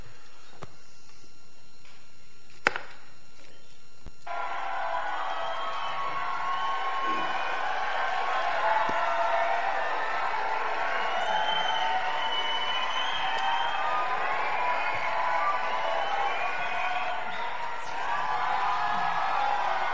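After a few seconds of near quiet, a large crowd bursts into sustained shouting and cheering, a dense, steady roar of excited voices with scattered whoops that carries on to the end.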